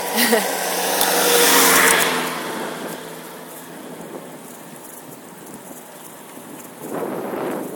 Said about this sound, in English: There's lots of cars now, and lots of wind